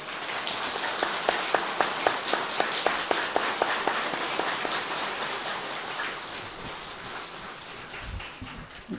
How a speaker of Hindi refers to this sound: सभी सीधे बैठेंगे, ताली बजाएंगे थोड़ा एक बार।